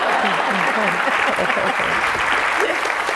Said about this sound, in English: Wait, we have applause right here. Go right ahead.